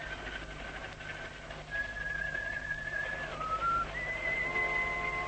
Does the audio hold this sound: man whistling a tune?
yes